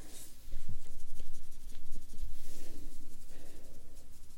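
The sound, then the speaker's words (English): Soft scratchy rubbing of a waterproof eyeliner pencil being blended across an eyelid, a steady run of quick repeated strokes with no one talking. “So if the pencil goes a little bit on your eyes, that's okay, because we have to blend it right away because it is waterproof.”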